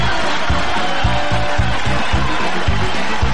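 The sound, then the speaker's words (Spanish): Loud, dense applause fills the whole moment, a steady hiss of many hands clapping with a rhythmic thumping pulse underneath, no voices heard. “No entendí nada, pero igual, aplausos.”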